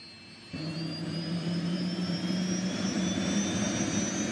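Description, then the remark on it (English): A helicopter engine roars in after a brief quiet moment, settling into a loud, steady drone with a high turbine whine that slowly climbs in pitch. “So piloting a chopper like this is far from easy for those who've never been in one.”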